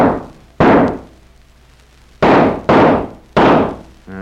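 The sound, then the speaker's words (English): Several loud gunshots fired one after another at uneven intervals at a big canoe with at least 8 Indians in it, each a sharp crack with a ringing tail that fades before the next. No one speaks. “A few well-placed shots may put a few holes in them and sort of discourage the Indians”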